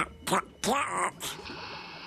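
A duck quacks three times in quick succession, nasal and fairly loud, with a brief pause between calls and a faint hiss lingering afterward.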